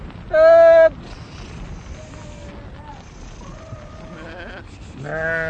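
A sheep lets out a loud bleat, followed by a quieter stretch of faint, wavering calls before another strong bleat comes in at the very end.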